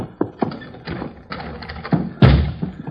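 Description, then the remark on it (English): Heavy, dull thuds land in an irregular series, about seven blows in three seconds, as people try to break down a solid door. The final impact hits hardest and booms lowest. “It's no good. We couldn't break down the door with a crowbar if we had a crowbar.”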